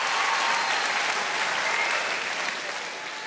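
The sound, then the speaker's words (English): A crowd of women applauding, steady dense clapping sustained throughout and easing slightly toward the end, with no voices standing out. “All those women clapping, they meant yours.”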